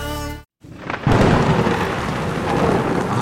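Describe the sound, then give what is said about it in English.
A thunderstorm rages, with heavy rain hissing steadily and a deep, rolling rumble of thunder building after a brief silence, loud throughout. “And we're back in the storm.”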